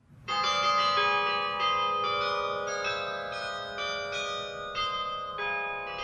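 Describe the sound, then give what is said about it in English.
Carillon bells, played from a mechanical keyboard at an outdoor summer concert on the Norwich University campus in Northfield, ring out in a steady sequence of overlapping tuned strikes, their bright tones sustaining and blending into a continuous, resonant melody with no voices present. “The present definition of a carillon is 23 or more bells tuned so they may be played in harmony from a mechanical keyboard such as you see here.”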